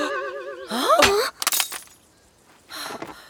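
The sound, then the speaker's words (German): A warbling, wavering tone slides upward as a spell makes a woman's pocket mirror leap from her hand, then a sharp burst of shattering glass rings out as the mirror breaks, followed moments later by a softer rustle of scattered fragments. “Lea hebt den Spiegel auf. Er ist zerbrochen.”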